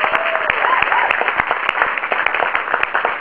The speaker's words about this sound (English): Let's first give a real big round of applause for the SPJ, Society of Professional Journalism, for inviting us here.